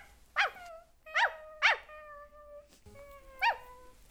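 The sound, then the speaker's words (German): A dog barks four times in sharp, irregular bursts, each bark trailing into a high whining tone, with no talking. “Warum bellt der Hund so?”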